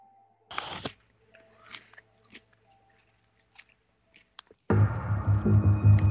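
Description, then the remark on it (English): A sharp crunchy bite of a raw carrot, followed by scattered small crunches of chewing, then loud, continuous munching to the end. No one speaks. “As I rudely chew my carrot, I forgot the time on the video when I was gnawing on a carrot.”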